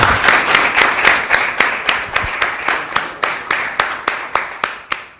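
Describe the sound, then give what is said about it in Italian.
A crowd applauds the family who donated an artist's work to the town council (Comune), with loud, crisp claps, dense and overlapping at first, then thinning into a steady, rhythmic pattern of distinct claps that slowly fade over a few seconds. No one speaks. “E quindi io direi, passiamo a, innanzitutto farei un grande applauso alla famiglia.”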